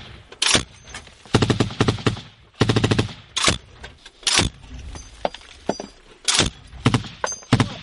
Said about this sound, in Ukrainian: Це ще почав працювати снайпер нашої сторони.